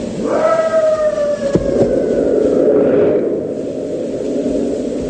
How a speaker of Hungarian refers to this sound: Farkasok!